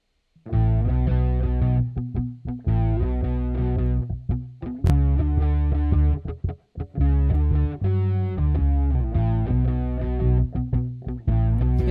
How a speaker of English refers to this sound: we spent some time picking an amp too that is distorted but not too aggressive